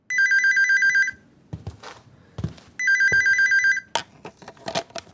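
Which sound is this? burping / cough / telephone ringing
telephone ringing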